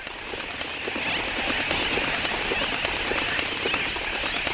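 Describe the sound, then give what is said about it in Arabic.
A large flock of birds migrating south calls steadily, with dense overlapping chirps and a rapid fluttering pulse of wings, fairly loud throughout, with no voices. “وبعد أيام بدأت أسراب الطير في الهجرة للجنوب.”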